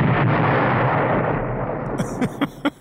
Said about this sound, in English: I mean, trains and explosives generally don't go well together, right? I mean, yeah, normally, but we're just talking about little explosions here, just powerful enough to make a sound.